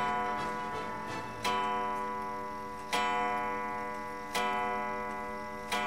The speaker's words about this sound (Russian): Часы, они 1885 года рождения. Это фамильная драгоценность Овчинниковых. Вот я их переселила из Воронежа сюда, они долго были испорчены, потом нашелся волшебный мастер, который их все-таки реанимировал.